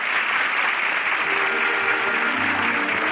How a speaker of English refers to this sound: The curtain is down on a brilliant opening night performance in the little theater off Times Square. It's Hollywood and the all-star cast in front of the footlights acknowledging the applause.